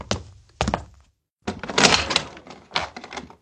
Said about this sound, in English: They were inside the house now. He could hear them on the stairs. His dad opened the door.